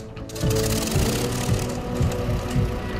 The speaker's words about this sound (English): Then he's in the cockpit, and one of the bomber's four propellers roars into life.